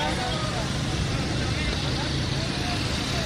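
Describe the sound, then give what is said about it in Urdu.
Steady, dense roar of busy street traffic on the roads of Lahore, crowded cars and motorcycles blending into a continuous rumble, with indistinct voices murmuring underneath. “اس کے باوجود موٹر سائیکلیں گاڑیاں سڑکوں پہ ڈھیر لگا ہوا ہے.”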